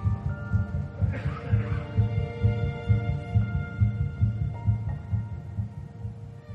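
The heartbeat of an embryo at 3 weeks and 1 day, 22 days after fertilization, pulses in rapid, steady whooshing thumps, low and muffled like an ultrasound monitor, continuing throughout with a faint background hum and no voices.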